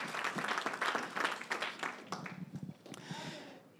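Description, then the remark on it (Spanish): An audience applauds the Lord in a dense, crackling wash of many hands clapping at once, loud at first and then thinning and fading, with a few voices surfacing as it dies down. “Demos un aplauso al Señor y pueden tomar sus asientos.”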